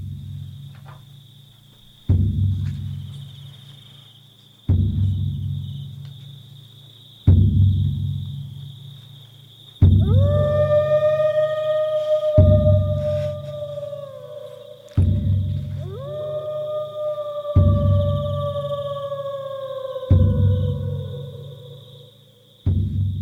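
Two long, drawn-out wolf howls rise and slowly fade, one after the other, over a steady, pulsing low thump that repeats every few seconds with a faint high tone beneath.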